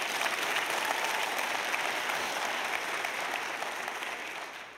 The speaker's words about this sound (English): Come on, give Him a big clap. Amen.